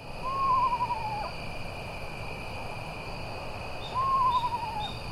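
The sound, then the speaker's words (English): A screech owl gives two eerie, descending whinnying calls a few seconds apart, clear, over a steady chorus of insects droning in the night background. “It sounds otherworldly, but screech owls are widespread in the countryside.”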